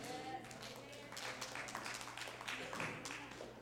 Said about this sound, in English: Go ahead and clap.